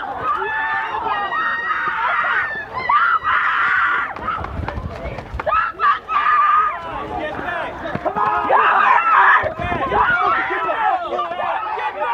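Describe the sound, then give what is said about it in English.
A woman screams repeatedly amid a loud, chaotic crowd at a vigil, with overlapping shouts and commotion filling the scene for the whole stretch. “So you can kind of hear that level of screaming, and that's what Antifa brings to these things.”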